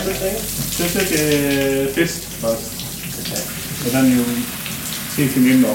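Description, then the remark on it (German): A steady hiss and sizzle as a sauna master ladles water from a wooden bucket onto the hot stone of a seaside sauna on the Øresund, running continuously at moderate loudness beneath a person speaking. “Dann steht der Saunameister auf, holt einen Holzeimer voll mit Wasser hinter dem Saunastein hervor und schöpft eine Kelle davon über den heißen Stein.”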